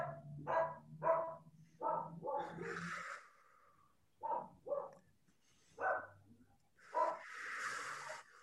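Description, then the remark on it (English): A dog barks outdoors in short bursts, some in quick pairs, with breathy huffing noises between them. The barks are moderately loud, with no talking. “I'm listening to my dog barking out here.”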